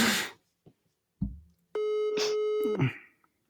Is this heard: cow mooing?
no